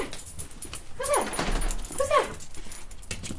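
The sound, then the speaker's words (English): A one-year-old shelter dog named Dottie whimpers twice, two short, high-pitched whines about a second apart, against a steady background hiss. “And now she comforts herself with one-year-old shelter dog Dottie.”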